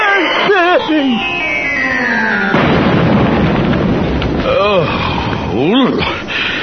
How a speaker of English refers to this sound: Bless you. That's a good one.